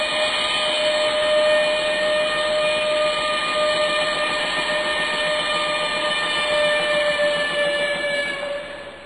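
A steam train departing a station for Saigon blows its whistle in one long, unbroken shriek over a bed of hissing steam and low rumble, loud, easing off only in the final moment.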